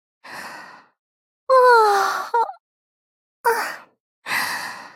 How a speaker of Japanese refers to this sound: あら？なんであなたまであくびしてるの？